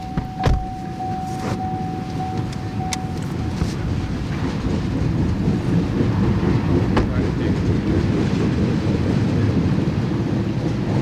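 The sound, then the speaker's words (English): A long freight oil train, led by an orange BNSF engine emerging from a tunnel and pulling black, pill-shaped oil cars, rumbles past on tracks north of Seattle at night in the rain, a steady heavy roar with sharp metallic clanks and squeals breaking through, continuous throughout with no talking. “The orange BNSF engine emerges from the tunnel, and then the black, pill-shaped oil cars, one after another.”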